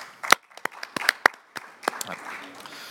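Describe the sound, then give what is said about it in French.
Brief, scattered applause at a committee meeting approving, by acclamation, the re-election of eligible officers: a dozen or so sharp, uneven claps from a small group, loud at first and thinning out over about three seconds, with faint murmuring underneath. “Finally, may I now suggest re-electing the officers who are eligible for re-election by acclamation?”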